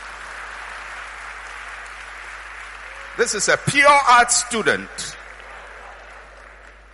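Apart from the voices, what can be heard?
audience clapping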